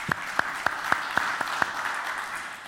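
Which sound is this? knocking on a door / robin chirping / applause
applause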